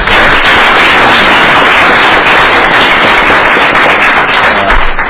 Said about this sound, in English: He deserves a round of applause as well.